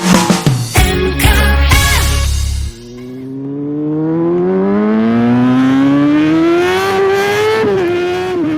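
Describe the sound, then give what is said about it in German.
A loud motorcycle engine revs in sharp bursts, then roars steadily as it accelerates, its pitch climbing through the gears over several seconds, at the start of motorcycle season in fine weather. No voices are heard. “Dieses Geräusch, das hört man jetzt immer öfters. Denn ja, bei dem schönen Wetter beginnt so langsam wieder die Motorradsaison.”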